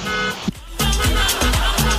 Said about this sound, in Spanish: Está pitando el furgón de la escuela afuera.